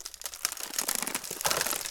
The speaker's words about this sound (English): Oh, hell. Something's rattling in the bushes.